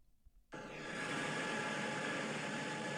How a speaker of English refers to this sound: I have my white noise machine blaring as I'm reading. You want to hear what it sounds like when I'm reading? This.